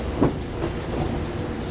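A limited express train bound for Shirahama rolls along the rails with a steady low rumble and a couple of soft rhythmic clacks, heard from inside the carriage with no voices.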